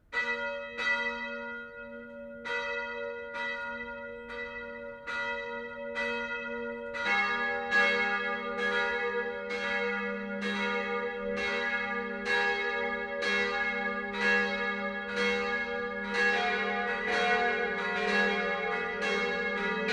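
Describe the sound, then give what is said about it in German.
Church bells of the Catholic parish church Mariä Himmelfahrt in Pfatter, Upper Palatinate, Germany, ring steadily at 12 noon, strokes repeating about every second with rich, sustained overtones; around seven seconds in a second, deeper bell joins, thickening the continuous peal. No voices. “Das Mittagsläuten kommt heute von der katholischen Pfarrkirche Mariä Himmelfahrt im oberpfälzischen Pfatter.”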